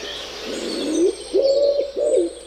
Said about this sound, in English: What is that sound? I don't know. A baby? It's a dog. No. It's a pigeon. Pigeon. Yeah. But I don't. That's not what a pigeon sounds like. That these are actual pigeon sounds.